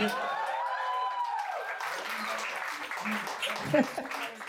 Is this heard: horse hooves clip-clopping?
no